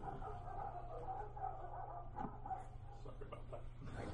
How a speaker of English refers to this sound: The dogs agree. All right. Good stuff. The dogs are barking.